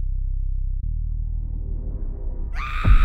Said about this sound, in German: Emily erwachte durch einen lauten Schrei. Der Schrei war so ohrenbetäubend laut, dass das blonde Mädchen sofort hellwach war.